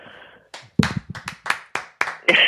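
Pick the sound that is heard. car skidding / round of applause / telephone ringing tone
round of applause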